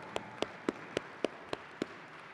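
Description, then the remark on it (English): Seven crisp hand claps ring out at a steady, fairly quick pace over about two seconds, like applause from one pair of hands for the parents, moderately loud against a faint hiss with no talking. “Let's applaud the parents here.”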